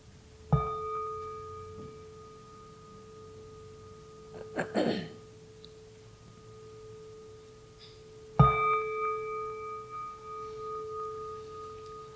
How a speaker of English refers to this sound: Gently close your eyes. Please listen to the bell.